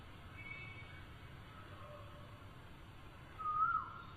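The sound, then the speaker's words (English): A cuckoo gives one short, clear whistled call near the end, rising out of a steady hiss of outdoor background noise. No one speaks. “But the boys, the cuckoos were singing in the Vrindavan forest.”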